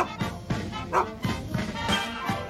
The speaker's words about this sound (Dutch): Dan doe je hier nog even een hond doorheen.